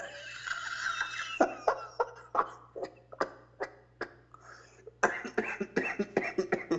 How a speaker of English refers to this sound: I have the old man cough laugh. You do? I just assumed maybe you were under the weather.